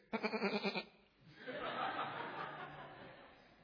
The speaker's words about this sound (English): And Samuel says in the King James, "What meaneth this bleating of the sheep and lowing of the oxen if you have done the will of the Lord?"